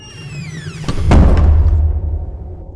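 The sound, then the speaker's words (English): A heavy door swings shut, its hinges giving a long falling squeal before a deep, booming thud that rumbles and slowly fades. Loud, with no voices. “Great, because this door is really heavy.”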